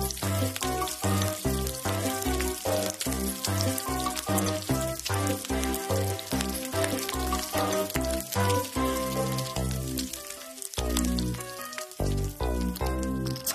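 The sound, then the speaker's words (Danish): Bacon sizzles steadily in a frying pan, a dense crackling hiss with scattered pops throughout, loud, with a brief dip near the end before it resumes. “Så sad du måske lige der og fik lyst til at stege lidt bacon i aften, kære lytter.”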